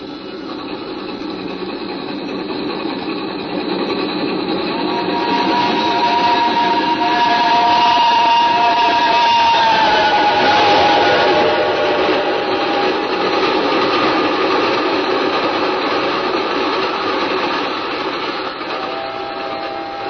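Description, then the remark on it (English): In a radio dramatization of Charles Dickens's The Signalman, a train thunders past in a steady, loud roar and into a dark tunnel, a high screeching tone rising over it midway as the rumble swells, then easing slightly as it carries on. No one speaks. “It had smashed by like a wounded monster screaming in pain and disappeared into the dark tunnel.”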